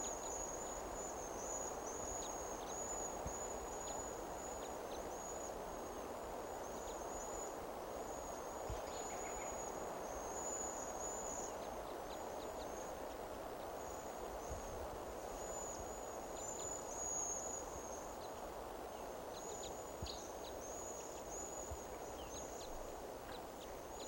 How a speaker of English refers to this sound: Well, birds are calling more like they're gonna fly.